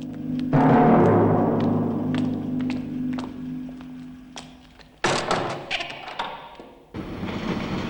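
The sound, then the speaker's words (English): Two orderlies shut the doors of a hearse in East Berlin after stowing a coffin inside: a few heavy, solid thuds, with small clicks and rattles between them and a low steady hum underneath at first. “Having stowed the coffin inside, the two orderlies shut the hearse doors and then go back inside.”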